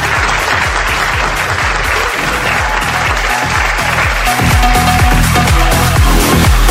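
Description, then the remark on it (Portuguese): An audience applauds the sponsors steadily, a dense, continuous wash of clapping that holds loud throughout and swells slightly toward the end, with no one speaking over it. “Eu quero deixar aqui para os patrocinadores do Pinheiro de André Zanella uma salva de palmas.”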